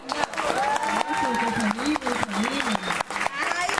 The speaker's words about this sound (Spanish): Bueno, un aplauso para ella.